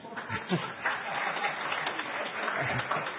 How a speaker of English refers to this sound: She deserves some applause for that.